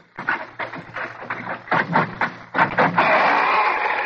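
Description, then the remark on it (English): The hinges of a door being opened with a key at a rickety old building near the Brooklyn waterfront, the E.R. Squibb and Company premises on Furman Street, squeak and groan in a series of drawn-out, wavering creaks, ending in one long, sustained high-pitched squeal. Loud and with no voices. “I can see the first order of business is to oil the hinges.”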